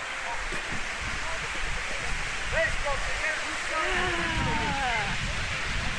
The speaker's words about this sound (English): Obviously there's a waterfall in front of me, and it's supposed to evoke salmon swimming upstream, and it does that kind of well, I guess.